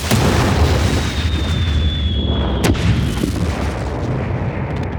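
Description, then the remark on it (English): A sci-fi spacecraft explosion effect: a loud, sustained rumbling blast with a whistling tone sliding slightly downward, a sharp crack midway, then the roar continuing without any talking. “Cue the sound effects.”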